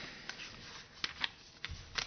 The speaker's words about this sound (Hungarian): Ézsaiás könyvében olvasunk egy királyról, Ézsaiás könyvének a 7. fejezetében. Már is oda is lapozok.